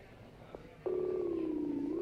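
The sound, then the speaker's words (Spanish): A brief click-like beep, then a steady electronic telephone tone that starts abruptly and holds at an even level to the end, with no voices present, as a long-distance call to Rome, outside the Madrid region, is dialed with many prefixes on a poor line. “Por eso el teléfono hemos tenido que marcar mucho prefijo, mucho, mucho rollo.”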